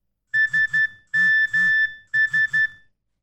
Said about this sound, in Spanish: De repente, recibe un mensaje y se despierta.